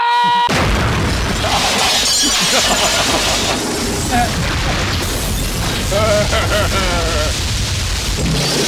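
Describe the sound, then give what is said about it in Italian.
After a brief quiet start, a mine placed under a car explodes with a sudden loud blast, followed by several seconds of sustained roaring, crashing debris noise, with voices and warbling tones mixed in. “io al massimo per fare uno scherzetto metto la bomba sotto la macchina come questa.”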